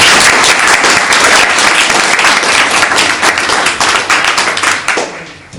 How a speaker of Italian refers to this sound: Quindi introduciamo anche lei con un applauso, grazie.